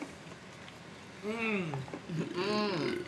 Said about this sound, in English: Oh, there's a burp. I'm burping this whole time.